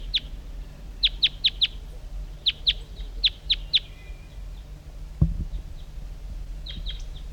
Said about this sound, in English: Other wild birds are around.